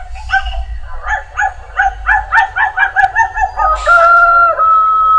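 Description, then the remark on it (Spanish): A dog barks in a quick run of about a dozen yaps, ending in a drawn-out whine or howl, loud over a low background rumble. “Y había una vez un perro que vivía en un cerro, un perro del cerro.”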